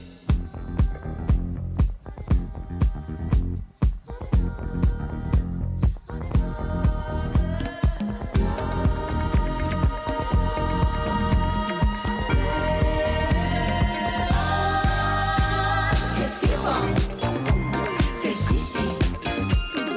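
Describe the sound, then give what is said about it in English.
An upbeat dance track plays loud and full for the whole stretch, with a punchy, steady beat, heavy bass and bright layered synths, and no one talking over it. “they've got some amazing new tracks, multiple languages. Feel this one”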